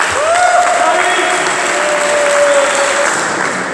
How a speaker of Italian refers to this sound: Allora, questo è il primo grado, perché è la stella di bronzo al merito sportivo per la polisportiva Unione Ciechi di Torino, a cui farei un grande applauso.